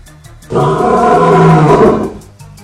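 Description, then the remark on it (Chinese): A single loud, sustained, angry lion roar bursts in and rumbles for about a second and a half, deep, then fades away, with a faint rhythmic background beneath it; the lion shakes its mane as it roars, facing a charging herd of antelopes and zebras. “狮子王把家人往身后一挡，抖起鬃毛，发出一声怒吼。”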